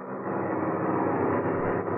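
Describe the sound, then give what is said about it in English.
A steady, droning engine roar fills the whole stretch, an airplane cruising in flight at 5,000 feet, loud and constant without any speech over it. “they took off from Senor Pereira's hacienda, and as we find them now, they're flying at 5,000 feet.”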